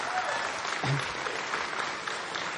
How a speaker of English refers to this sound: And a round of applause for teachers, if you wouldn't mind.